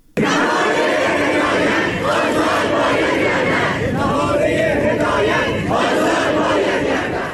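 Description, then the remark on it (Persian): A large crowd of protesting students at Amirkabir Polytechnic University in Iran chants together in loud, rhythmic unison at a rally, voices swelling and pausing in repeated slogan-like bursts that continue steadily throughout, with no single voice standing apart. “دانشجویان معترض از جمله خواستار آزادی بهاره هدایت، سخنگوی پیشین شورای مرکزی دفتر تحکیم وحدت و فعال حقوق زنان شدند.”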